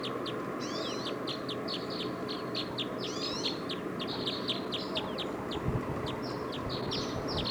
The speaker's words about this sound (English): Decoys now are calling a lot.